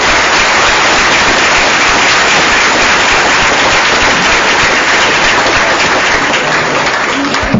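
A crowd applauds steadily, a dense, loud wash of many hands clapping at once that holds at an even level throughout, with no voices breaking through.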